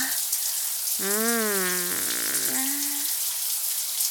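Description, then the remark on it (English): Shower water runs in a steady hiss for the whole stretch, with a couple of brief wordless vocal sounds rising over it partway through. “You are so much fun to play with in the shower.”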